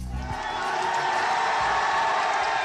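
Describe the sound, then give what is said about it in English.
A large crowd of thousands of supporters in Burma cheers and shouts continuously as pro-democracy leader Aung San Suu Kyi stands outside her home waving to them. It is a dense, loud roar of many voices with whoops rising above it, sustained without pause throughout. “That is the cheer of the crowd as Burmese dissident and pro-democracy leader Aung San Suu Kyi stood outside her home, waving to thousands of her supporters.”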